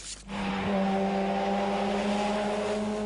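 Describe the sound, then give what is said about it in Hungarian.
A racing driver's car engine roars at high revs with a steady, droning tone, loud, as it takes a corner on a closed track for a few seconds without pause, measured at 140 by the Trophypox. “Ezt a kanyart egy versenyző a lezárt pályán még be tudta venni, de az országúton egy ilyen kanyarodás már biztos tragédiához vezet.”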